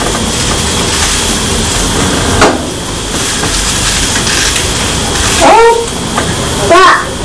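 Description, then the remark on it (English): Water runs steadily into a container, a continuous rushing splash lasting the whole time, with a couple of brief high-pitched squeaky voice sounds near the end. “A lot of water there.”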